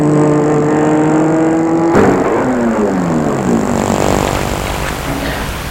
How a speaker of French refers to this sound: Elle va garer sa voiture.